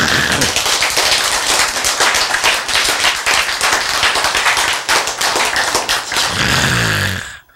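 A crowd breaks into sustained applause, dense overlapping claps filling about six seconds at a loud, steady level before tapering off at the end.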